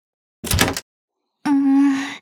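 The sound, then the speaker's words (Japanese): A locked door is tried: a short rattling thunk as the handle is pulled, then after a pause a steady, droning groan that holds for almost a second before cutting off. “鍵がかかってる。”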